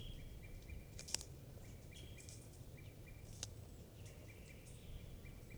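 wild birds calling

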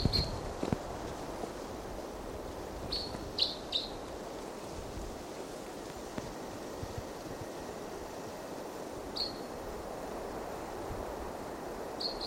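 wild bird chirping

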